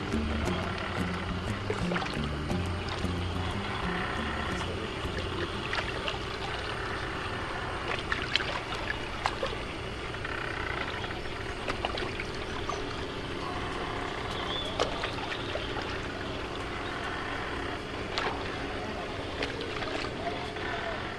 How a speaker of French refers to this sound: Aziz Chouaki a adapté sa pièce pour cette lecture au Festival d'Avignon, lecture dirigée par Catherine Boskovitz, avec dans le rôle du vent, de la mer et du bateau, l'artiste bruiteur Bertrand Hamel.